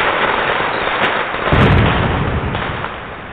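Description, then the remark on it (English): Fireworks crackle and boom continuously, with a heavier burst around the middle amid a dense wash of popping and rumbling, loud with no voices. “We play some fireworks.”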